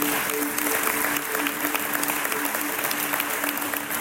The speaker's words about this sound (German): ich starte heute mit einem ganz großen Applaus.